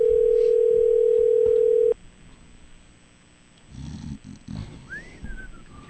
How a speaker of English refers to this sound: We gotta wait for her to answer the phone.